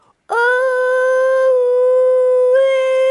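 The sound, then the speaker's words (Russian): A loud, sustained howl holds one steady tone for nearly three seconds, rich in harmonics, with a slight upward shift in pitch near the end. It sounds alone, with no talking. “Завыл Пиксти.”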